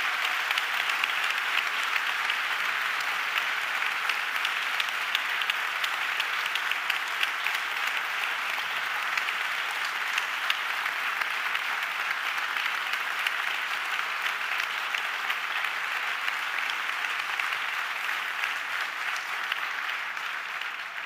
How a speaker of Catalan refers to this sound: Aquest cap de setmana ens ha deixat sobtadament l'Àlex Camón, així que voldria un fort aplaudiment per ell i molta força per la família i pels seus amics.